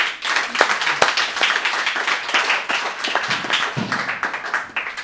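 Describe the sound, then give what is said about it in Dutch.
A crowd claps steadily for several seconds, dense overlapping hand claps forming continuous applause at moderate loudness, with a few sharper individual claps standing out. “Mag ik een heel groot applaus”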